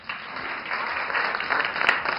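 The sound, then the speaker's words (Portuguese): Sustained applause from a crowd welcoming a hairdresser guest, a dense wash of many hands clapping at steady loudness throughout, with no distinct individual claps standing out. “Eu quero aplausos.”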